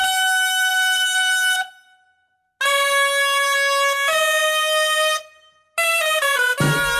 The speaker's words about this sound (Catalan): Ja han donat una petita pista de l'anunci, no? Va de gralles.